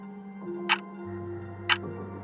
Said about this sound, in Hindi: घड़ी का घंटा टन टन करके बज उठा। 4, 4:30, 5।